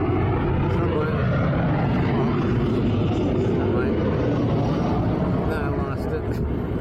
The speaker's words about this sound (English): Oh, look, there's an airplane.